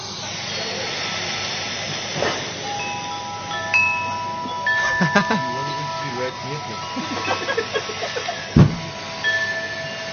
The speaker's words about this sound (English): There's some wind chime sounds.